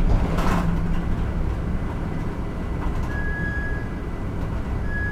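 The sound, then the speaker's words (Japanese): Steady low rumble and road noise inside a moving city bus, the 11:01 departure via Bunka Toshi bound for the Kintetsu line, continuous and fairly loud throughout, with a thin high-pitched whine appearing briefly in the second half. No one speaks. “このバスは11時1分発、文化都市経由、近鉄路線行きでございます。”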